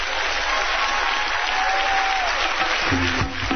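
The audience of Chappelle's Show applauds in a dense, steady wash of clapping for a guest, with a few cheers and whistles rising above it, holding loud for a few seconds.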